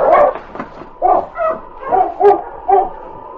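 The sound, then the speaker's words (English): Several sled huskies, led by a husky named King, bark and yip in quick, irregular bursts as they pull a sled up a snowy mountain trail, loud, high-pitched calls overlapping with rougher yelps, with no one speaking. “Led by the valiant husky King, the other dogs strained at the tug lines as they moved slowly up the mountain trail.”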